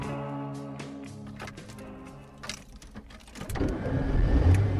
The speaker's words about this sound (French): Alors aujourd'hui, je vous emmène avec moi sur le Causs. On part en voiture là